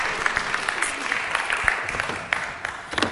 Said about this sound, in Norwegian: Tusen takk for vidunderlig lovsang. Det var helt rått. Det var kjempebra. Gi dem en klapp.